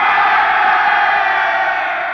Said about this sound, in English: A loud cheer broke out as they arrived at the bottom of the steps and entered the main room.